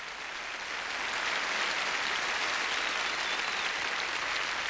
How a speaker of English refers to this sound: On bass, you heard him, and you know I heard your applause, so I know you dug, really dug.